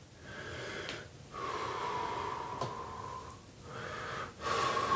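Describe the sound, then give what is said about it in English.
Loud, strained breaths come in several long, wheezing gasps as a person eases into cold water, each drawn-out inhale and exhale separated by brief pauses, with no talking. “I'm just going to ease in with the understanding that I'm going to keep breathing.”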